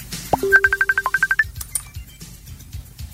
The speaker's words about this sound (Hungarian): Na, itt meg már csörög a csoportos hívás,